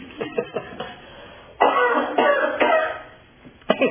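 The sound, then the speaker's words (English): A series of dry coughs from a person with a dry throat: a few short hacks at first, then a louder, rougher fit of harsh bursts, trailing off before one last sharp cough. “Pardon me whilst I cough.”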